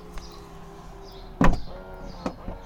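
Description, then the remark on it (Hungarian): A large power car door closes softly at the press of a button: a faint electric motor whirs steadily, then a muted, soft thud lands, followed by a quieter latch click a moment later. No one speaks. “Majd hallgassuk meg, mennyire finoman csukódik.”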